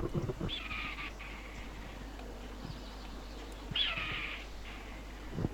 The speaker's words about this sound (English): Alongside a certain recording of the cry of the red-tailed hawk, it is probably the most well-known cinematic sound cliché.